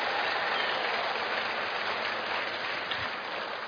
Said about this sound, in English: So, if you're a married couple, you can clap for them one more time if you want to.